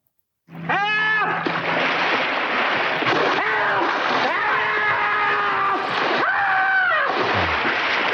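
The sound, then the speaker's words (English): A sudden loud plunge into water as a man dives in to save someone from drowning gives way to continuous churning, rushing water, with wavering, voice-like tones rising and falling above the splashing. “So anyway, he dives in the water. He saves him, right?”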